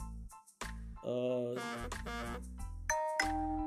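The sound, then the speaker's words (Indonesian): A phone's WhatsApp message notification plays: a short sequence of bright, chiming tonal notes with a ringing, bell-like quality, fairly loud and heard on its own. “Okay, ada WA. Sorry ya, soalnya ngerekamnya cuma pakai handphone. Lupa di silent tapi nggak apa-apa.”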